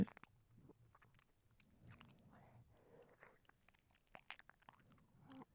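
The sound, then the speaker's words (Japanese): Soft, wet ASMR ear-licking sounds: quiet smacks, clicks and slurps repeating irregularly for several seconds, with no voices. “もうこっからだいぶ耳舐めをしてますね。”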